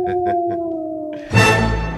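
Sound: wolves howling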